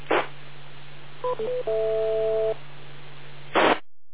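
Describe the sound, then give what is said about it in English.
A digital voice transmission picked up on an analog FM radio comes through as a steady hiss of static with a low hum, opening and closing with sharp noise bursts, plus brief electronic tones midway. “If you try to listen in analog FM, you're going to hear static slightly higher than the background noise around you.”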